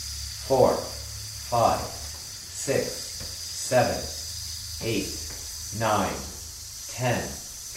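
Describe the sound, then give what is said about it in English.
A steady, breathy hiss of exhaled air, done as an exercise after a deep, silent breath in, runs unbroken through the whole clip, while a voice counts aloud in short, evenly spaced bursts about once a second over it. “So take a deep, silent breath in and hiss.”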